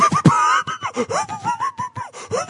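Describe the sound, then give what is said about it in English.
A person yawning, a drawn-out voiced sound whose pitch wavers and slides downward, broken into a few breathy surges over a couple of seconds. “I'm yawning because I'm a little tired, but it's not because of lack of interest in the story.”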